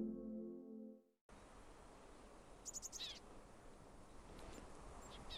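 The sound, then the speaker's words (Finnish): Tits and Eurasian tree sparrows chirp at a bird feeder in Sipoo in a quick burst of high, thin calls, with a few fainter chirps later, over steady outdoor background noise; a short tonal jingle plays first. “Täällä on jo ensimmäiset tiaiset liikkeellä ja pikkuvarpusen ääniä kuuluu tästä lähistöltä.”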